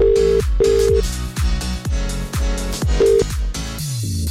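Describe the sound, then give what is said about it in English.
Short telephone ring tones beep in bursts, twice near the start and once later, layered over a loud, dense KMFM radio station jingle with swooping sound effects and no talking, as a competition call to a listener is placed. “Is your phone about to ring?”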